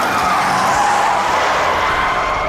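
A car fleeing a police pursuit skids to a stop at a dead end road next to a construction crew: a loud, sustained tire screech, its high squeal wavering and slowly falling in pitch over a couple of seconds, with a broad rushing noise underneath and no voices.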